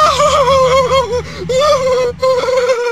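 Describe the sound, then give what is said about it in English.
A voice lets out acted screams of pain in an acting exercise, pretending their arms were ripped off: three long, loud, wavering cries in quick succession, broken only by short gasps for breath, with no other sounds. “I need to feel your screams, you see.”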